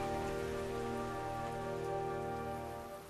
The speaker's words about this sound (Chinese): 狐狸冒着倾盆大雨往回走。 哼，谁耍滑头了？大傻狼，呆头狼，吃了辣椒辣死你。不借我伞，哼， 这一点雨，我才不怕呢。